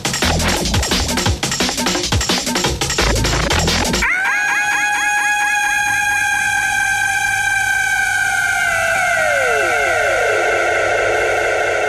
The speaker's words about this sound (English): a great shriek at the end of this, so I'll let it play through.